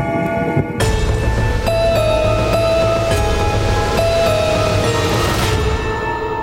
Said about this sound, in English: Suddenly, the ominous sound of a clock striking midnight echoes through the manor, signalling the arrival of the fateful finale.